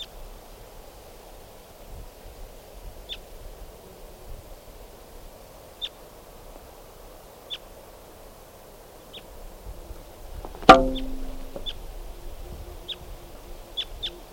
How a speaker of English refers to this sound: I'm not sure if it's a male now, but that was a wild bird, and it just flew across the clearing.